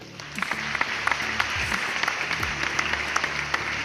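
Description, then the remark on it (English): A crowd applauds for about four seconds, a dense, steady wash of clapping with sharper individual claps popping out, held at an even, moderate level throughout. “Please clap.”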